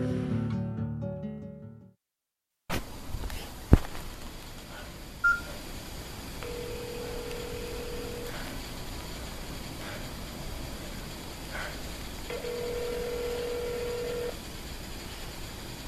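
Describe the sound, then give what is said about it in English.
A brief voice, a pause, then a few short telephone keypad dialing beeps over a hissy phone line, followed by two long, steady ringing tones spaced several seconds apart, with nobody answering. “Nobody is answering their phones.”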